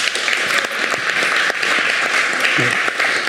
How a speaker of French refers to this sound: Bien évidemment le public qui était là, alors le public qu'on va entendre, qui va applaudir très fort d'ailleurs.